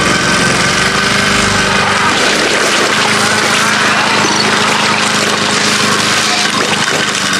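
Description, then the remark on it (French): A lawn mower engine roars loudly and continuously, a dense, rough mechanical drone with a low hum running through it, steady for the whole stretch with no pauses, as in a gory zombie film scene where a mower is run over a zombie. “Qui est un film de zombies, là, mais comme over, trop gore, puis passe la tondeuse d'un zombie, puis il y a tellement de sang en terre qui glisse.”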